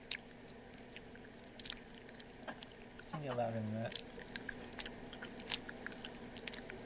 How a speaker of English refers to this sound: And listen to you chew gum.